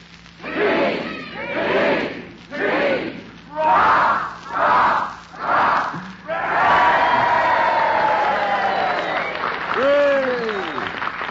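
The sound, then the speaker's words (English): A crowd chants a cheer for the Allied Armed Forces in six evenly spaced, rhythmic bursts, then breaks into a loud, sustained roar of cheering with a few high yells rising near the end. “Well, fellas, we'd like to cheer the greatest all-star team in history, the Allied Armed Forces.”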